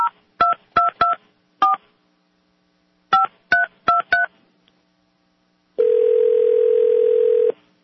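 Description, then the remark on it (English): About nine short telephone keypad tones beep in quick clusters with brief pauses as a call is dialed to a US senator's office, followed by a steady, longer line tone lasting under two seconds. Clear, with no talking. “let me try one more. Let's see if anybody's working late in Harry Reid's office.”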